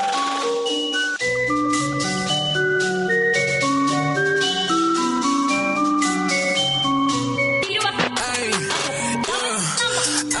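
A remix of a hip-hop song plays loudly, opening with a bright, bell-like synth melody before deep bass and drums come in; near the end a vocal with wavering, sung inflections joins the beat.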